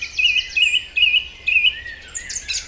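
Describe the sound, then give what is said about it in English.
A European dawn chorus on a spring or summer morning at first light: repeated bright warbling songbird phrases ring out in a steady rhythm over a low background hum, with more chirps joining near the end. “Each morning in spring and summer, as the first glimmer of daylight begins to dispel the darkness, millions of birds burst into song.”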